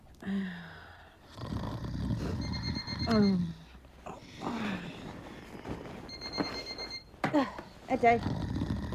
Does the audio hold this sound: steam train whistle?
no